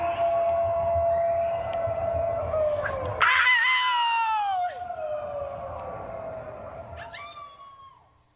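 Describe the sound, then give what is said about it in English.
A chorus of neighbours in Denver howling at the moon from their balconies and gardens at 8 o'clock in the evening, long wavering howls overlapping from several directions. A louder howl rises sharply partway through and slides downward, while fainter ones carry on. “Every evening at 8 o'clock, people are stepping out onto their balconies or into their gardens to join their neighbours and howl at the moon.”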